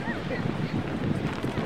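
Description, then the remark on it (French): Strong wind roars steadily across the microphone, a dense, rumbling buffeting that stays loud and unbroken throughout, with a faint hiss riding on top. “Bon, ça souffle, hein, là, il y a du vent.”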